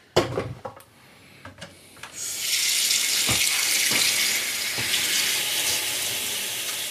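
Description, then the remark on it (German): A few clicks and knocks, then a tap is turned on and water pours steadily with a bright, hissing rush, continuing until the end. “In welche Richtung geht denn jetzt der Wasserhahn aus?”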